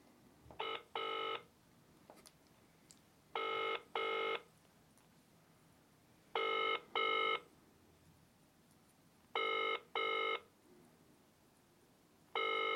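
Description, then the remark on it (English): A phone's ringing tone heard while waiting for an answer on a call placed at twenty-five to six on a Saturday night: a double electronic burst, 'brr-brr', repeating steadily about every three seconds, five times, clear and even with no talking over it. “They can't not answer at 25 to 6 on a Saturday night.”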